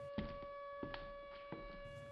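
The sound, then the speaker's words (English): A siren sounds with a steady, unwavering tone held throughout, fairly quiet, with a few soft thumps scattered beneath it and no voices. “Why is the siren going off?”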